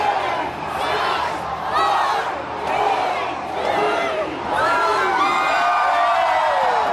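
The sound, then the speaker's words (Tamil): A large crowd in Melbourne, along the Yarra River banks and across the city, cheers and shouts continuously at a New Year fireworks display of 10 tonnes of fireworks launched from landmark buildings in hot weather, with overlapping whoops and excited voices swelling in waves, steady and loud throughout, without clear speech. “வெப்பம் அதிகமான காலநிலையாக இருந்த போதிலும் யாரா நதிக்கரையிலும் மெல்பர்ன் நகரின் பல பாகங்களிலும் பொறுமையுடன் மக்கள் ஆரவாரத்துடன் இதனை கண்டுகளித்தார்கள்”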